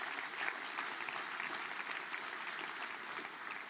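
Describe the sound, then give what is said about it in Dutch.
Sustained audience applause for a creative art work, a dense, steady wash of many hands clapping at an even level for several seconds, with no voices standing out. “Dus ik wil eigenlijk nu al vragen om een applaus te geven, want het is nu al mooi.”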